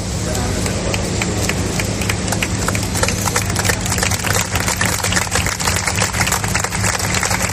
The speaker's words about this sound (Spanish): Un silencio que era roto por esos aplausos. A las 11 de la mañana, frente al Palacio de Cibeles, se celebraba este acto organizado por el Partido Popular de Madrid